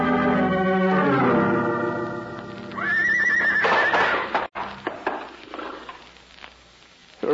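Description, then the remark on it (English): A horse at the stables lets out a loud, drawn-out whinny, its high quavering neigh sliding downward in pitch before breaking into rougher snorts and breathy huffs that fade away. No one speaks. “It was the square nose that threw her.”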